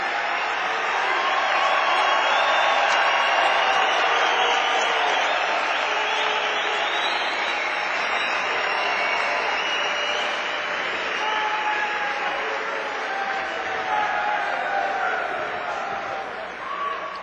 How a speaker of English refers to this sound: Sievers commits the foul, he's done. 17 for Chris Sievers. He'll check out to what I would imagine is a nice round of applause. So Sievers is disqualified at the 4:09 mark.